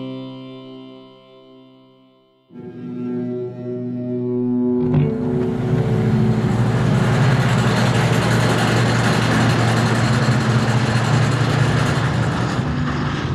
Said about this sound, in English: In some parts of the country right now, that sound, hydraulic drills and compressors used in fracking, is a constant presence.